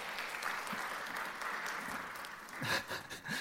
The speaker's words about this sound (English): Oh, look at him. Give him a big clap. There he is.